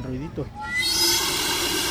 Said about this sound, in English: The steam also creates the distinctive whistle sound when it escapes from the metal barrel through a special tube. When the water falls on the hot part of the tube, it's expelled at fairly high pressure, which is what produces the little noise.